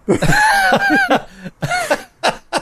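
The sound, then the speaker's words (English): A person vocally imitates a harsh, hacking cough in a rapid burst of several raspy hacks, followed by a few more separate choking coughs, loud. “He's coughing all over the cabbage cheese.”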